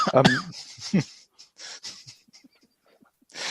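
A man coughs in a few harsh, raspy bursts, then trails off into softer, wheezy breaths and small throat sounds, with one more burst at the end.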